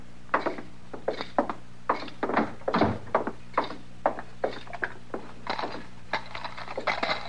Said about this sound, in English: My gracious, Mr. Dillon, look at that clutch of keys. He sure does use a lot more than we do back home.